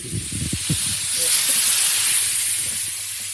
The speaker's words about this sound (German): Also jetzt, die Luft geht jetzt wieder rein in die Unterdruckkammer sozusagen. Ja. Plopp.